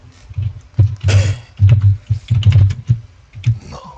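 Rapid, busy typing on a computer keyboard, a dense stream of clacking keystrokes with a few louder bursts, close and fairly loud, no voices.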